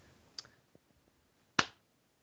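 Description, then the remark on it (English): A single sharp hand clap rings out, bright and punchy with a short tail, after a fainter click and a few soft taps in otherwise quiet surroundings. “A single clap.”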